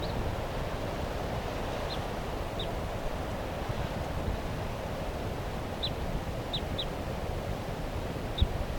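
A wild bird gives about six short, high chirps at irregular intervals, calling from the treetops of a tall fir tree just above a car, against a steady rush of wind noise.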